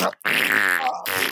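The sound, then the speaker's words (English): A person blows a wet, buzzing raspberry with the mouth to imitate a fart: a short sputter, then one long, loud, rattling blurt, and a brief final burst. There is no talking. “I'm going to do a couple of fart noises.”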